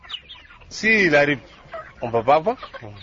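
Several chickens in Africa, kept in backyards near people's homes, cluck in a quick, bursty series, one drawn-out squawk followed by a cluster of rapid clucks, loud and clear with a faint murmur of background activity.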